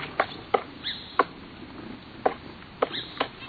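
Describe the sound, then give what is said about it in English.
A woodpecker in spring carves out a nest hole in a tree trunk, landing sharp, irregular wooden knocks separated by uneven pauses, with a couple of faint, high chirps in between. “A woodpecker hard at work, carving out a nest hole in a tree trunk.”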